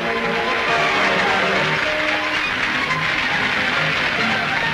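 Sustained applause from high-ranking guests for a festive parade of boats at a national scout water camp in the Netherlands, steady and fairly loud throughout, with a faint murmur of voices or tones mixed beneath the clapping.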